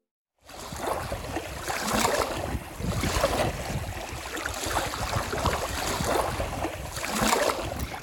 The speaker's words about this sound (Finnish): Meren äärellä ihminen voi tuntea itsensä pieneksi kuin muurahainen konsanaan. Meren aallot kuljettavat rantaan vaahtopäitä. Kivet ja kallio pysyvät järkähtämättöminä paikoillaan, vaikka minkälainen myrsky pauhaisi ympärillä.